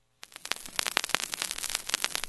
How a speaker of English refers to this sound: No need to adjust your radio. That's just the warm crackle of a vinyl record.